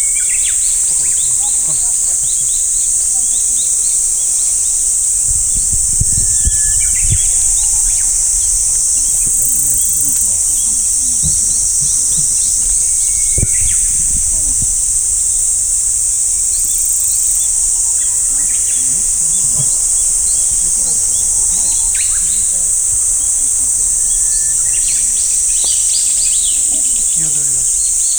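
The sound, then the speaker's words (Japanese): Outdoor ambience on a nature walk listening for wild birds, dominated by a steady, high insect drone, with a few faint, scattered bird chirps and some low rumbling handling noise. “耳を澄ませば鳥の声がよく聞こえるんですよね。”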